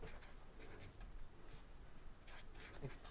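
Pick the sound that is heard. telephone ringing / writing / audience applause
writing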